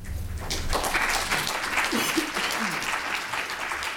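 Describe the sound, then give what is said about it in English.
A crowd of about fifty people claps steadily at an Urbana city council meeting, applauding the council's vote reaffirming the community as a sanctuary; a dense patter of many hands sustained for several seconds at an even, moderately loud level. “About 50 people applauded the city council's decision late last year.”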